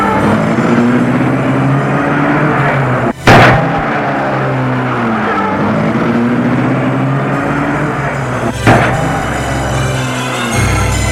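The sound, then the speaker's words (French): A car engine hums steadily as a man leaves in the car, broken by two sharp, loud thuds like doors slamming, before the motor sound drops off near the end. No one speaks. “Il a pris la voiture.”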